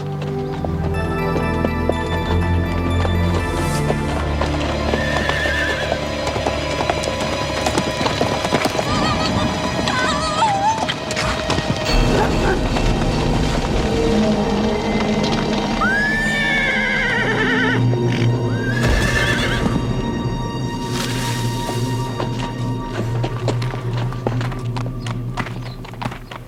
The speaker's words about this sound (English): saddled up her ex-race horse, Sly, and headed out for a ride.